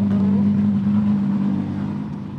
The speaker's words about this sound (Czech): Tak my už slyšíme burácení dalšího motoru.